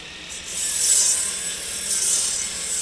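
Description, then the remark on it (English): A saw grinds steadily through wood during the off-season winter rebuilding of the boardwalk in Ocean City. It is a bright, hissing rasp that swells twice over a few seconds without stopping. No sharp nail-gun bangs can be picked out, and no one speaks. “Except for the two winters when the silence has been broken by the sounds of backhoes, buzzing saw blades, and pneumatic nail guns.”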